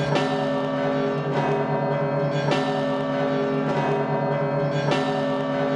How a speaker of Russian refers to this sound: Писал так, что под осенним сентябрьским днем подходил к Данилову монастырю, и тут ударили большой колокол. Какой звук? Золотой, глухой, подземный.